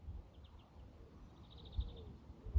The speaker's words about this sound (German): Auch wenn ich das Vogelgezwitscher so sehr mag. Also ihr hört jetzt gerade O-Ton live, wie laut es hier so auf meinem Pausenplatz ist.